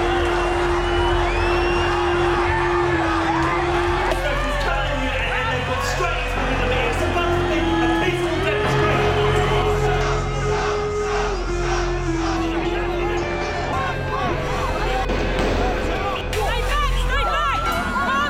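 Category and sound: crowd, angry protest crowd shouting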